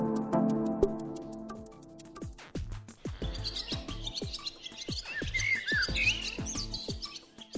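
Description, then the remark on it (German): A garden warbler chirps and warbles in quick bright bursts, fairly loud, over a steady rapid ticking, with a low humming tone at the start; no one speaks. “Ein bisschen Speck auf der Hüfte belebt das Sexleben von Vögeln. Zumindest das der Gartengrasmücke.”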